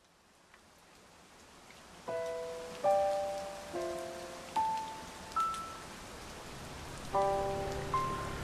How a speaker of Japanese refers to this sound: 雨か。仕事帰り、突然の雨で傘なんか持ってやしない。